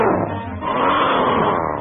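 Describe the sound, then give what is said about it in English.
A loud, continuous animal roar, like a big cat, rumbling and growling steadily for a couple of seconds, with a brief dip partway through before surging again. “Then his eye spotted another banner, and he heard the most ferocious-sounding roar.”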